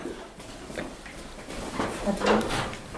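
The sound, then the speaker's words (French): A door opens and shuts as a woman passes through it, with a few short knocks, scrapes and a brief creak spread over a couple of seconds at moderate loudness. “On va attendre qu'elle passe la porte aussi. Pour éviter les nuisances sonores.”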